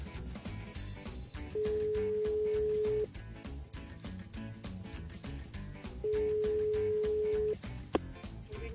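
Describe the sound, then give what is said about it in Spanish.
Two long, steady ringback tones of an outgoing phone call to a contest participant, each about a second and a half with a pause between, sounding clearly over continuous background music. “Ya tenemos aquí los tonos.”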